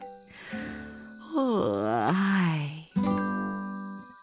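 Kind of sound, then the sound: human body sound, a yawn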